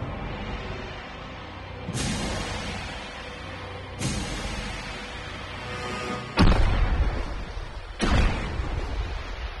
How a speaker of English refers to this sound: Two explosions bearing 162.